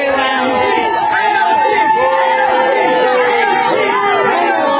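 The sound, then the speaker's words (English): A large crowd boos loudly and continuously, many overlapping voices forming a dense, sustained jeer that fills the whole stretch without a break. “She's being booed.”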